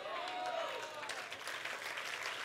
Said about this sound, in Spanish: Ay Dios, yo no sé si usted, yo creo que ese aplauso usted se lo puede dar mejor al Señor.